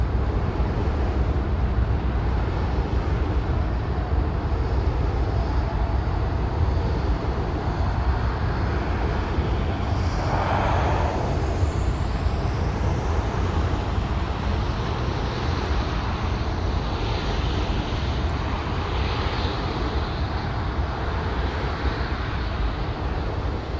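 A steady, deep whooshing drone of a wind turbine with a constant hiss of highway traffic, one louder swell passing about midway through, and no voices.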